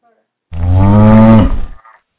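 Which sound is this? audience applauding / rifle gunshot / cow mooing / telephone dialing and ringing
cow mooing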